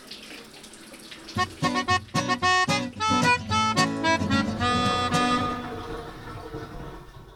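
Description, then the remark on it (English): Water runs steadily into a filling bathtub, a soft hiss giving way to a louder, ringing gush with resonant tones that shift and fade out over several seconds. “I'm going to shut up now and get in the tub with a nice ebook.”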